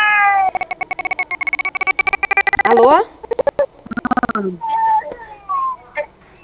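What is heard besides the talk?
baby crying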